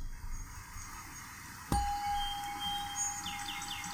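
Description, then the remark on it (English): During a broadcast, a gong is struck and rings out with a long sustained tone, and soon after, faint rapid bird-sound chirps repeat in a quick descending series, fairly quiet in the background. “I've brought my rain stick and bird sounds today, and my gong.”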